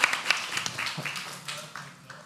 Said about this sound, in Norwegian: Gi en varm applaus